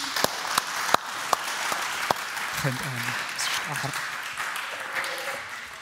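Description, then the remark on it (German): Steady applause from a crowd bidding farewell to guests, dense clapping with a few sharper claps standing out early, and brief bits of voices or cheering rising through it midway. “Und ich würde sie gerne noch mal mit einem Applaus verabschieden.”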